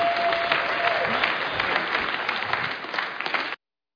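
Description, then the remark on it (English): A crowd at a church worship service applauds steadily with dense, sustained clapping and a few faint voices mixed in, holding an even level for about three and a half seconds before it cuts off abruptly. “Round of applause for these folks.”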